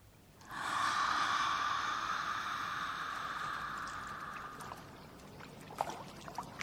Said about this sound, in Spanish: El agua, el río, la piedra y el sonido me devuelven aquí, a lo bonito.